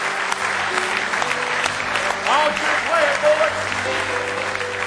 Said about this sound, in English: Oh, give him another big hand clap.